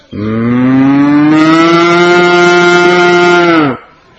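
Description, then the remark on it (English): A person's voice imitates a cow mooing with one long, steady, drawn-out low moo lasting a few seconds. It's loud, with nothing else around it, and it cuts off abruptly. “Little groups of white and black and reddish and golden cows walking along her banks in little strings like this, going.”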